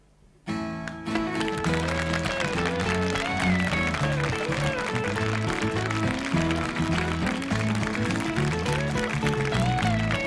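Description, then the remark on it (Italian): A song kicks in abruptly and loudly at a television taping, and the studio audience's clapping rises with it, sustained as a dense patter beneath the music for the whole stretch. “Quindi noi adesso ricominciamo e appena io scatto con le note voi applaudite, grazie.”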